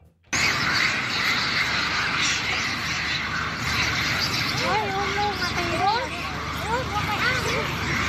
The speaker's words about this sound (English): I ask what we have that is short audio, and Andrew has screaming monkeys.